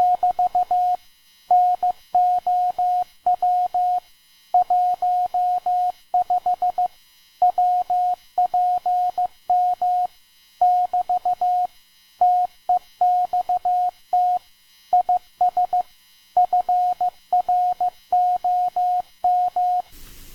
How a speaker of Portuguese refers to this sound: Por exemplo, um sinal de código Morse.